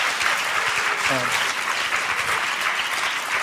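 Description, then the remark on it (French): An audience applauds the pianist of the orchestra as he is introduced, steadily for a few seconds, a dense, even wash of many hands clapping at once, with a brief voice rising through it partway in. “On peut applaudir.”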